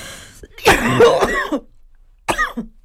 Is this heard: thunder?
no